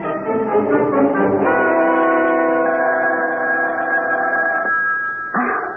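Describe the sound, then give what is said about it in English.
A telephone rings loudly at 3 a.m., a steady, sustained tone that holds for several seconds, breaks off briefly, then starts again. No one speaks. “Wake up. The phone.”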